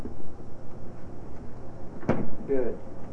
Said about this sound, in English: You know, time to close the refrigerator, okay? Time to close the refrigerator.